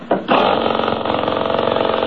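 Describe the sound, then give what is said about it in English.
An engine is started again: it coughs briefly, then catches and settles into a steady, loud, rapidly pulsing mechanical running sound with a buzzy, chattering rhythm that continues to the end. “Hey, listen to this engine run, will you? Here, I'll start it again.”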